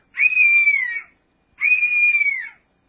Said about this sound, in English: I believe that's a bird of prey, although it sounds like an entire kindergarten being murdered, which I guess you can get away with if you happen to be in a place where birds of prey hang out. Oh, kind of blood-curdling